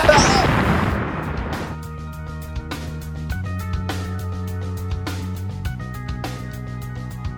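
A loud explosion sound effect bursts at the start and rumbles away over a second or so, then gives way to steady background music with regular percussive hits.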